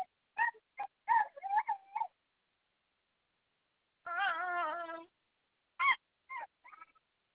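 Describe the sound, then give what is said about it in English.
A puppy whimpers in a string of short, high-pitched whines, then one longer wavering cry after a pause, followed by a few more brief whimpers trailing off. “Oh, are you loving your puppy?”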